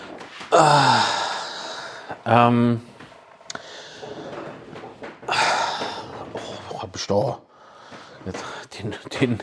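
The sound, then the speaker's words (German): Heavy breathing with loud sighing exhales and gasping intakes, broken up by wet snuffling and short nasal snorts over several seconds. “Man merkt es auch, ne? Die Husterei, die Schnauferei.”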